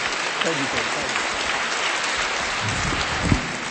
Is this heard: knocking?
no